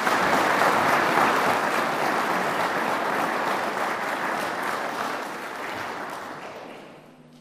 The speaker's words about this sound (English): But we will give them a wee round of applause.